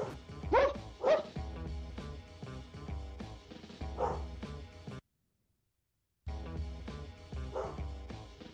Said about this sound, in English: What's wrong? He's got the dog in the background, man.